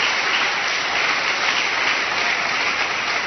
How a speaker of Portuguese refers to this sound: Glória a Deus, pode aplaudir mesmo, igreja, pode aplaudir.